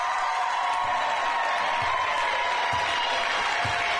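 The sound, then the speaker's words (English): A Stevenson basketball crowd cheers in a loud, steady roar during the final ten seconds of an NCAA tournament game against Williams, with soft low thumps recurring about once a second beneath it. No one speaks. “Listen to the Stevenson crowd.”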